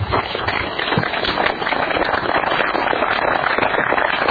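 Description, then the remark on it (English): An audience applauds as speakers from the BLM and the Kane County Fire Warden come up: a dense, crackling wash of many hands clapping at an even loudness for several seconds, with no clear voices over it. “Are you applauding them coming up or me leaving?”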